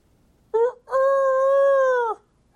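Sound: rooster crowing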